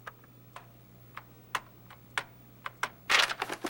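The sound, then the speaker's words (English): Sharp keyboard key clicks as a young man timidly presses keys on his computer keyboard, tapping out at irregular intervals, then ending in a quick flurry of presses, with a faint steady hum underneath and no voices. “A young man timidly presses a key on his keyboard.”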